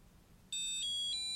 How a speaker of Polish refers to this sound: Naciskamy pierwszy i ostatni kursor routing, a następnie D1 i D4 i przetrzymujemy przez około 5 sekund, aż usłyszymy podobny sygnał do tego, jak się włączało monitor brajlowski, ale trochę wyższy. Więc najpierw kursor routingi D1, D4 i czekamy.